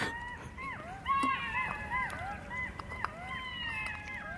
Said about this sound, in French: C'est la première fois que j'entends des chacals.